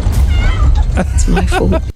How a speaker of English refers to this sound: running towards the cat meowing, I guess.